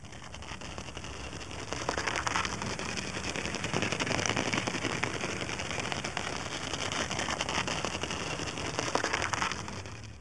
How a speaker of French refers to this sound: Étonnamment, on a largement pu profiter des bruits de pas d'un mille-pattes. Et elles sont vraiment à peine audibles, hein, donc je me sens vraiment pas mal de ne les avoir jamais entendues jusque-là.